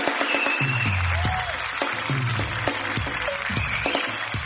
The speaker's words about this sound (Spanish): ¡Qué buen público el de hoy día! ¡Un fuerte aplauso para el público! ¡Y más fuerte ese aplauso, más fuerte! Porque esto es Tengo Algo Que Decirte.